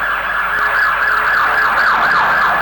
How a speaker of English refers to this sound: That's a hospital ambulance. Let's see. Must be a wreck out. That's both of them.